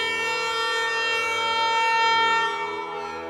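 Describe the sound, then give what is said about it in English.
An air horn, held overhead in a living room with its trigger squeezed, blasts in one long, unbroken blare, loud and harsh with a steady pitch and buzzing overtones, holding for over three seconds before easing off slightly at the end. “It takes 45 minutes, and then, in desperation, I stand in my living room, hold the air horn over my head, and squeeze its trigger.”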